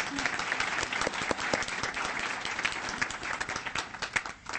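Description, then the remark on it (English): A crowd applauds staff members steadily, many hands clapping in a dense, sustained wash of sharp claps that holds at an even level before thinning slightly toward the end. “So those staff members, would you raise your hand and let us applaud you?”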